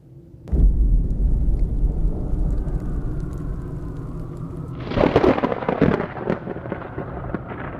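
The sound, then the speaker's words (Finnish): A heavy thunderclap breaks in suddenly and rolls on as a deep, sustained rumble, then a second sharp crackling crash follows near the end, loud, with no voices. “Tuollaisessa myrskytilanteessa saattaa matkustajasta joskus tuntua siltä, kuin ohjaamossa lentäjät oikein puskisivat tai työntäisivät koneen myrskyn läpi.”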